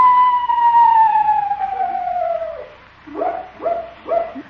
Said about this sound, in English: what was that? Screech owl, Unc. Oh? Must have the hiccups. Hello there, Screechy.